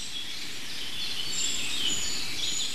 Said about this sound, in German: So ein ganz hohes Zieh im Hintergrund. Was ist das? Das klingt ja fast Goldhähnchen-ähnlich. Aber ich glaube, es sind keine Goldhähnchen.